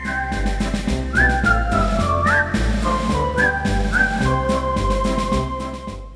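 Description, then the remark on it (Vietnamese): A jaunty whistled march melody, the theme music of the film The Bridge on the River Kwai, carries over a full band accompaniment, with bright sliding whistle phrases rising and falling above steady, rhythmic brass and drum beats. “Đó là bản nhạc quen thuộc Cầu Sông Quai, đi kèm cuốn phim mang cùng tên, xuất hiện tại các rạp chiếu bóng ở Sài Gòn trước năm 1975.”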